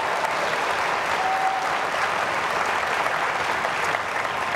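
A crowd at a debate applauds the audio crew steadily, a dense, even wash of clapping that holds at a constant loud level for several seconds with no voices over it.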